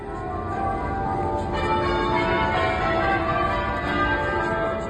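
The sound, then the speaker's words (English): The bells of Westminster Abbey in London peal continuously in a dense, overlapping wash of ringing tones, steady and fairly loud with an outdoor feel and no voices, as the Queen leaves the Field of Remembrance. “As the Queen left the field of remembrance and the Abbey bells rang out”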